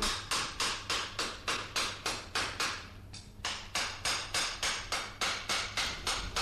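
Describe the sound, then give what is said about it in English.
Rapid, steady hammer blows ring out on metal in a blacksmith's forge in London, about two or three strikes a second, pausing briefly midway before resuming, over a low continuous hum. “having grown up in a little townland in County Clare and worked in a forge, to find yourself now here, years later, walking in a forge in the heart of London?”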